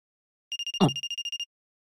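A telephone rings once in a short burst of rapid, high electronic warbling pulses, about a second long, with a dull thump in the middle and no talking.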